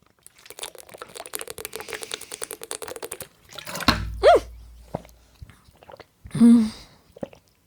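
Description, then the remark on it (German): A bottle knocks against the microphone, a loud thud with a booming low rumble, following a stretch of rapid little clicks and rattles and trailed by more handling noises. “Ich bin gerade mit der Flasche gegen das Mikrofon gekommen.”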